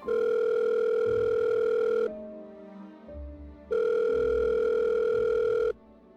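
telephone ringing tone

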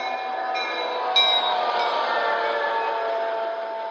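train arriving

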